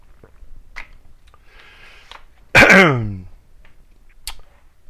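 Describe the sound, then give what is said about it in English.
Quiet mouth clicks and a brief slurping sip of distilled water, then a gulp and a short voiced throat-clearing sigh after swallowing, with faint clicks trailing off. No talking. “Let me get a little swig of this distilled water here.”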